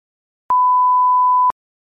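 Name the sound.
telephone call ringing tone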